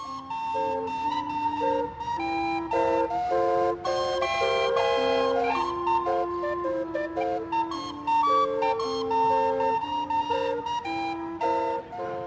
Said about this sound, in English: New Orleans, Louisiana has many signature sounds. Music that spills out of the clubs, the clang of the streetcars. But what defines the soundscape of this city is the sound of the steam calliope from the riverboat Natchez.